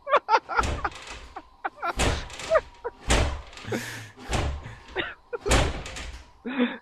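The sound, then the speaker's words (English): Repeated heavy, loud bangs and thuds on a door, coming in irregular bursts of pounding with short pauses, as a young child hammers insistently against it with small fists. “My wife doesn't want to take the kid right now, so he's banging on my door.”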